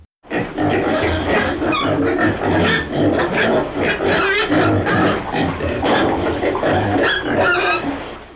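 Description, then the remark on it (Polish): Pigs squeal and grunt continuously for several seconds, loud, with overlapping shrill cries and snorts forming a dense, chaotic chorus. “Potem zakwiczała świnka.”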